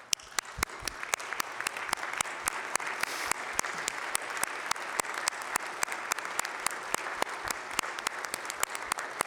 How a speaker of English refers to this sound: The kids are incredible that are in it, and some of them are here today. If you look up in the balcony there, they're here watching us work, and can we please give them a big round of applause?